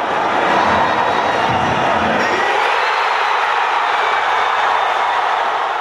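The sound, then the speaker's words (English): Crowds in Kansas City roar and cheer in celebration while watching the U.S. play, a dense, loud wall of shouting voices that stays sustained throughout, with the low rumble dropping away partway through. “Crowds in Kansas City erupted in celebration while watching the U.S. play.”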